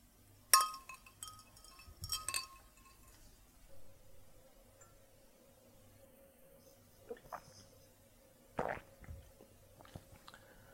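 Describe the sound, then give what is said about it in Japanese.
Glasses clink together in a toast: a bright, ringing chime, a second lighter clink a moment later, then soft handling and sipping noises. “はい、グラス持って。”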